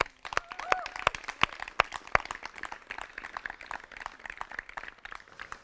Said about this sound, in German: Vielen Dank euch an dieser Stelle für euer Einsatz, euer Invest. Und dieser Applaus gilt euch.